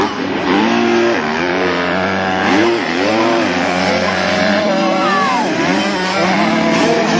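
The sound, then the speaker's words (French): Several motocross bike engines, including a 2024 Gas Gas 125, rev and whine at once during a race on the Païta track in New Caledonia, pitches rising and falling as riders accelerate and shift, a dense, continuous roar with a faint voice underneath. “Ma moto, c'est une 125 Gaz-Gaz 2024. C'est agréable quand même de rouler sur un bon terrain.”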